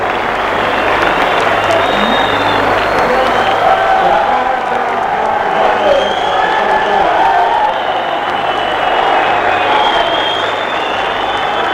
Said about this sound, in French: Et le public applaudit.